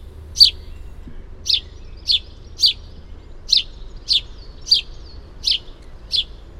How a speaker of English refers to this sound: I just want to play the song, which is basically just the call, the chirping call of the house sparrows.